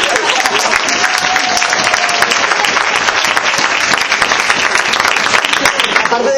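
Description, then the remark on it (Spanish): A steady wash of audience applause at a congress, many hands clapping in a dense, continuous crackle that stays loud and even for several seconds without a break. “Sin duda lo emocionante es que si aplaudís es porque pensáis que también es mi congreso.”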